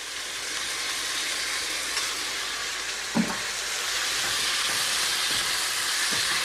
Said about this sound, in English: And now I'm going to add my sauce that we've very cleverly prepared earlier. I'm going to pour that in and make sure you scrape every last bit of that sauce out of that bowl.